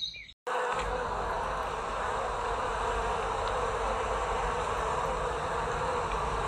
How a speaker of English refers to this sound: And in the middle of this place was a large oak tree, and from the top of the tree, there came a loud buzzing noise.